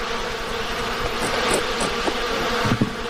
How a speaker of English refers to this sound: Yeah, they're bouncing off me pretty good. You know, when the bees hit you on purpose, they weigh half a gram or something. They ram you. But now this is characteristic of the bees when they're upset. So they've gone up here and they're just hanging.